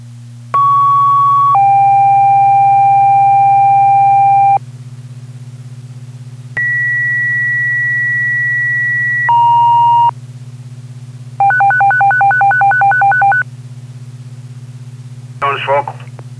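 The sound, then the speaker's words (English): Claremont Fire Department dispatch paging tones for all personnel over a radio channel, striking a second alarm for a structure fire at 12 Cottage Street: two long, steady two-tone sequences, then a rapidly warbling alternating tone, all loud and clean over a constant low electrical hum. “Tone is for all Claremont Fire personnel.”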